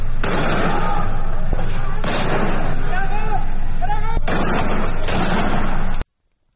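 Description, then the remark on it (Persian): About five sharp gunshots from security forces firing directly at residents' homes in Naysar township, Sanandaj, crack out at irregular intervals over a loud, constant background of crowd noise, with shouting voices rising in between the shots. “در ویدیویی که وبسایت حقوق بشری هنگا شامگاه دوشنبه از سنندج منتشر کرد، ماموران امنیتی در حال تیراندازی مستقیم به سمت خانه‌های شهروندان در شهرک نایسر در سنندج هستند.”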